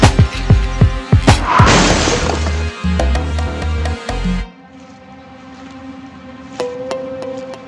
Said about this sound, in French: Ma situation est devenue critique. Je doute que je puisse échapper à ces coups de feu qui se multiplient.